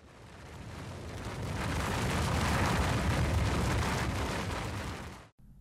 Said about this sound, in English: Suddenly, a sound of rumbling echoes behind them.